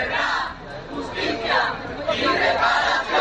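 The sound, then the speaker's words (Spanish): Families gathered at the doors of a courthouse shouting together, loud overlapping voices rising and falling in waves with no clear individual words. “Ha sido una mañana muy movida a las puertas de los juzgados, donde se han escuchado los gritos de las familias que allí se han concentrado.”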